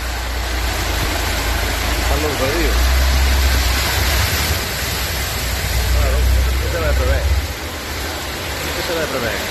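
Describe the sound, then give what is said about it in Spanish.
A red car's engine rumbles steadily beneath a constant wash of rushing, splashing water, loud, as the car pushes through deep floodwater on a street in Molina de Segura, Murcia, Spain, after heavy rain; faint indistinct voices may be mixed in. “se ve a alguien que se mete con un coche rojo a cruzar una calle que no es una calle”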